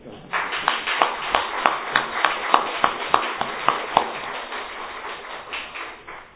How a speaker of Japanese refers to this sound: ちょっと拍手したいと思います。